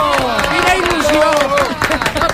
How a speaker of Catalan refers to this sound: Un aplaudiment. Bravo! Bravo! Bravo!